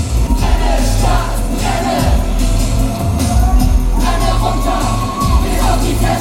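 A group of performers, lined up as a punk band at the front edge of a stage, yell "Brenne, Stadt, brenne" in unison over loud, driving music, the shouting sustained and forceful like a chanted slogan, with a dense, crowded feel throughout.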